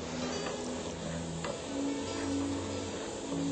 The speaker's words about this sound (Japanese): だんだん沸騰してきます。沸騰したら 1,2 分ぐらいねそのまま沸騰させておいてください。はい、沸騰してきましたね。